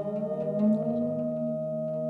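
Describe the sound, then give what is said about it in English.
A steady, layered electronic drone from sonified climate data holds several sustained pitches representing the atmospheric carbon dioxide concentration, swelling slightly midway, with faint, sparse plucked tones representing annual average temperature flickering above it. No one speaks. “And then that kind of drone is the... That's the CO2.”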